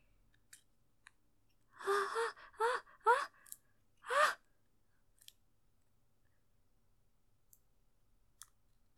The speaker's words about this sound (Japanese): よし、またハサミだね。あー、怖い。傷つけられないから怖い。